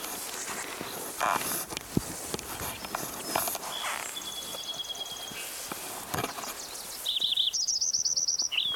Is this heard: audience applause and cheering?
no